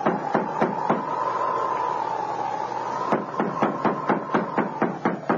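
Repeated knocking on the door of a store: a few sharp raps, a pause, then a longer steady series of firm knocks, all over a constant low-mid hum.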